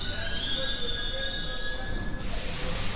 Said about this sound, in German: Bis Mitternacht quietscht die Metro auf ihren 80 Gummireifen pro Zug durch den Untergrund oder saust oberirdisch am allabendlichen Verkehrschaos vorbei. Stoßzeiten bringen umfassenden Körperkontakt und bisweilen Ohnmachtsgefühle.